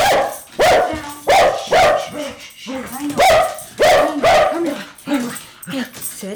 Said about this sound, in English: That's her dog, Otis, who greets newcomers with a fierce bark that fades when the treats come out.